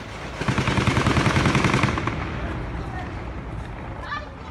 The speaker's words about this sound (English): In this one, the camera points at a well-kept strip of lawn with a busy road beyond. But people are running, yelling, taking cover. And all the cars are trying to move in reverse. Then the gunfire begins.